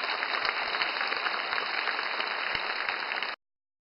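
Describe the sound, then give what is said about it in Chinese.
Steady, dense applause from a large audience fills a big performance hall at the Shen Yun New York Art Troupe premiere in Changhua, Taiwan, as performers take two curtain calls; a continuous wash of many hands clapping at even loudness before stopping abruptly. “美国神韵纽约艺术团在彰化园林的首演赢得满场观众热烈回响，演员连续谢幕两次，观众热情的掌声回荡在整个演艺厅。”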